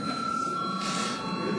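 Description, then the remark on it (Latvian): A bell signalling a break in a session of deputies rings continuously, a steady bright metallic ringing with a constant level throughout, heard on its own without any voices. “Tātad, kolēģi, mums ir pienācis laiks pārtraukumam. Lūdzu zvanu.”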